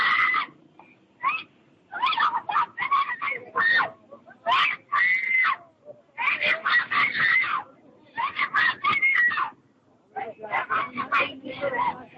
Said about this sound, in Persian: در سایت کسوف ویدئوی زنی قرار داده شده که با داد و فریاد سعی می کند در مقابل ماموران پلیس که او را دستگیر کردند مقاومت کند.